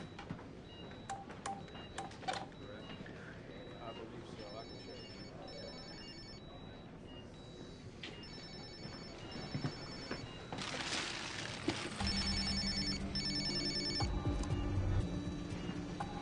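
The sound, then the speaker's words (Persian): A string of short electronic keypad beeps as a phone number is dialed to call a patient's brother, followed by a steady, buzzing ring tone repeating through the line, clear. “به نظرت نباید به همراهش زنگ بزنیم ببینیم برادرش چی میتونه به همون بگه.”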